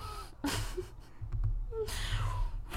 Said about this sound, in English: I'm breathing so hard right now.